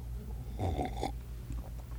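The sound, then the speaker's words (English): A single short slurping sip of hot coffee, lasting about half a second against a low steady hum, with no talking. “Sip on my coffee.”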